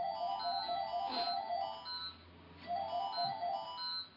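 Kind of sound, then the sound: household object, landline telephone ringing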